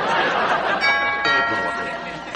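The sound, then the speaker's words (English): A doorbell rings with a bright, sustained chime that lingers for a couple of seconds, heard fairly clearly over a murmur of people talking in the background at a Thanksgiving gathering. “Can anybody hear the doorbell?”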